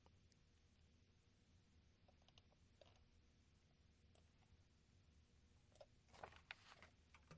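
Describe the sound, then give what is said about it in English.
Sperm whale clicks (codas) in the Caribbean, sharp and dry, tapping out in scattered groups before a quicker burst near the end, all set against a steady low underwater rumble and hiss. “Researchers in the Caribbean say the clicking language used by sperm whales actually reflects a kind of alphabet.”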